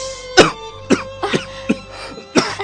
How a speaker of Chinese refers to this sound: 张雷吓了一跳，被烟呛着了，咳嗽起来。